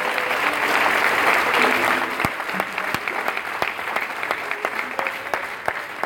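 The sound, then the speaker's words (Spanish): A large crowd claps loudly and steadily for the Lord after a prayer in the name of Jesus Christ, a dense wash of applause that stays strong throughout, with a few sharper individual claps standing out near the end. “Den un aplauso al Señor. Hacelo fuerte. Hacelo fuerte, fuerte.”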